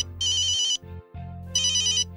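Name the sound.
mobile phone ringtone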